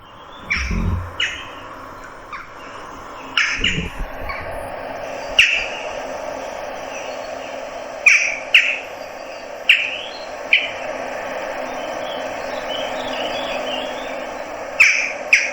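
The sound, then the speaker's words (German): Sharp, short jackdaw calls ring out repeatedly at irregular intervals, clear, over a steady background hum of insects and faint outdoor ambience. “Ja, genau das, was ich meine. Das ist die Dohle.”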